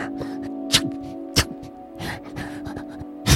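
Soft snuffling of a hedgehog with a few sharp, breathy bursts like tiny sneezes, spaced irregularly over a steady low hum.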